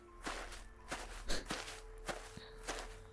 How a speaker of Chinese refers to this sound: 听到脚步声就挣脱出来了吗？